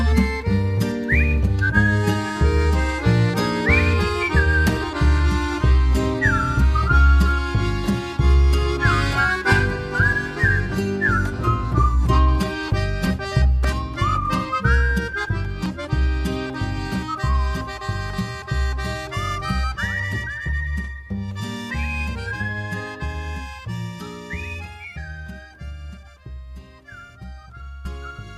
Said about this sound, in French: il plonge du transporteur, cet enfant de naguère qui ressemble à mon père, un enfant de Marseille qui sifflote au soleil.